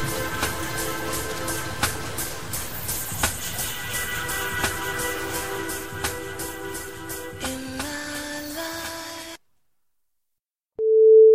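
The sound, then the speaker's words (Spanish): A dense musical passage plays, cuts to silence, then a loud, steady electronic alarm clock beep starts abruptly at the very end, piercing, going off at 8 in the morning. “Suena el despertador.”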